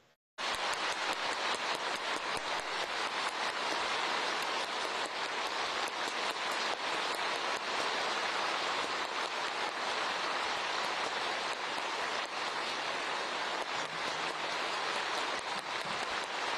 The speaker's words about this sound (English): Those applause went on for a good several minutes